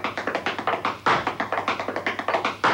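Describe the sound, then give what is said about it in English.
Rapid wooden clog taps patter in a quick, uneven rhythm of a clog dance step drawn from cotton mill machinery, broken twice by a louder, heavier stamp imitating the bang of a loom's weft boxes turning over. No one speaks. “You get steps where you get the machinery sound, and steps where you get other bits of machinery coming in, like the weft boxes, where they sort of turn over and make a bang.”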